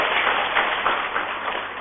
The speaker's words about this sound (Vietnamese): Phải cho tràng pháo tay.